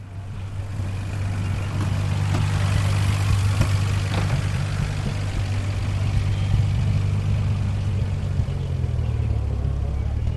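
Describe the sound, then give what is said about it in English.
A 1936 Bentley Le Mans Special engine idles steadily, a deep, even rumble with a throbbing low hum that holds for the whole stretch, with no voices over it. “This is the tale of two cars, or at least in part, it's that sort of tale, and one of the cars is a 1936 Bentley Le Mans Special.”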